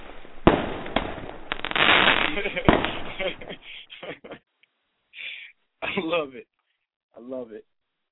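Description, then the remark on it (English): A fireworks sound effect: a loud burst of sharp cracks and crackling pops for a few seconds, then fading out, followed by people talking in short bursts. “Fireworks, baby.”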